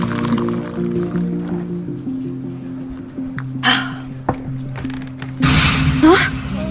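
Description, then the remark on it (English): Tea pours in a short splashing stream near the end, preceded by a brief liquid slosh, all over a steady low droning musical tone. “Oh, dear me, let's try washing it down with some tea.”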